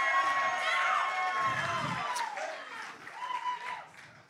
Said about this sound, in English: I want y'all to go ahead and applaud my dancing so she knows how good it is.